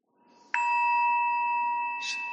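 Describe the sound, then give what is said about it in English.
A single clear bell is struck once to end a walking period in a meditation session and rings on with a steady, sustained tone, with a brief bright shimmer near the end. No one speaks. “Or you can just walk, and when the bell rings, you'll have a meditation partner.”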